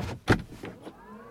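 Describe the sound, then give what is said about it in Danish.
An electric car's front door opens automatically: a sharp mechanical clunk followed by a brief electric motor whir that fades out, with no voices. “Det var altså bare frontdøren, der gik op.”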